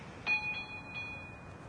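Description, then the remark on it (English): A doorbell rings with a bright metallic chime, struck a few times in quick succession, its clear tone sustaining and slowly fading over a quiet background, with no voices. “Here's the bell.”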